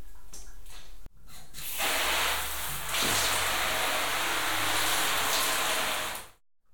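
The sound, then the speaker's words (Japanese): Close, steady wet hissing and frothy rubbing as soap is worked into a thick lather in a bath, running for several seconds after a brief pause, then cutting off abruptly. “石鹸で泡立てて、おっぱいに塗って、で、おちんちんもこうやって石鹸の泡でぬるぬるにしてと。”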